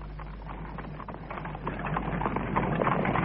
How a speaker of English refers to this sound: You see, down that way is Park Lane, and all along here is Piccadilly. Oh, heavens, what a lot of traffic. Do you know there's over 11,000 cabs for hire in London? It looks as though all 11,000 of them are jammed in here.